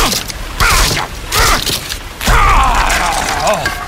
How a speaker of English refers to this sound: Well, open the door. Our terms and conditions have been updated. Please read these 37 pages to open the door. Screw you, door!